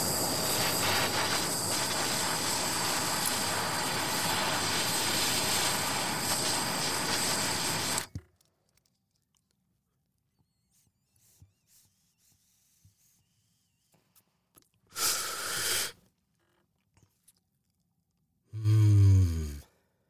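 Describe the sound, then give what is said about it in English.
A long, steady, airy rush of someone drawing cannabis vapor through a Woodwind pipe lasts about eight seconds, then quiet, followed by two short breathy bursts as the breath is let out. “it's time to inhale. So here we go, a little cannabis out of the Woodwind to start my day here”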